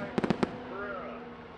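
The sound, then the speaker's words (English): Four sharp fireworks pops burst in quick succession in the mid-afternoon sky, part of a 5-minute fireworks display after the finish of a motor race, followed by a faint murmur of voices and a low steady hum. “Then, as if the organizers had envisaged the lukewarm reception, a 5-minute fireworks display crackles invisibly in the mid-afternoon sky.”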